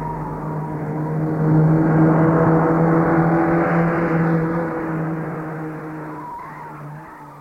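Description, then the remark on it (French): A man's car engine hums steadily and swells as he pulls off to drive home, then slowly fades as the car drives away, heard alone with no voices. “Il a pris sa voiture pour aller s'enfermer chez lui.”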